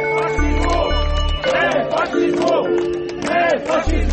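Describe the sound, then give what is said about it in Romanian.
A large protest crowd at a monument to Soviet marshal Konev shouts and jeers together, booing police officers who detained an activist, many voices overlapping in loud, rising and falling cries, with a heavy low rumble underneath at moments. “Demonstranții au salutat gestul unui activist care a urcat pe schele și a dat jos prelata. Apoi i-au huiduit pe polițiștii care l-au reținut.”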